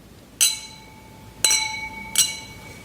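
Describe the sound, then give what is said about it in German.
Three bright glass clinks ring out at uneven intervals, each with a sustained high-pitched tone that slowly decays, as wine glasses holding white wine are touched together in a toast at a wine tasting, fairly loud. “Ja, dann lass uns mal probieren hier, was wir im Gläschen haben. Vielen Dank, Benjamin. Vielen Dank. Zum Wohl.”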